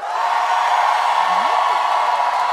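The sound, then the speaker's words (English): An audience cheers to vote that the character Jim John was killed needlessly by the DM, in a loud, steady roar that holds without a break, with a rising whoop cutting through partway. “If you think Jim John was killed needlessly by the DM, go ahead and cheer.”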